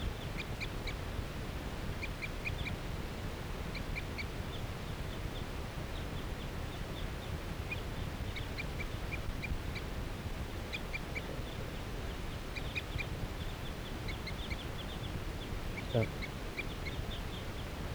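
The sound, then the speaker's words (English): A wild female bird gives repeated circling calls, short high notes in quick clusters that recur throughout, over a steady low rumbling background. “Circling calls of that wild female.”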